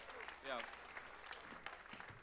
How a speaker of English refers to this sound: One big applause for our sound guy, who has a great restaurant in Dordrecht as well.